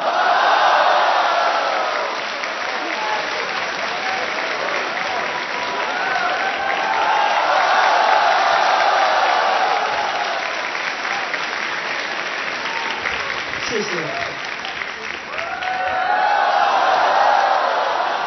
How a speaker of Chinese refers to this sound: 谢谢朋友们的热情掌声。